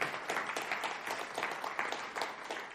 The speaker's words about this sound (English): That's worth a clap to the Lord, I reckon. Come on.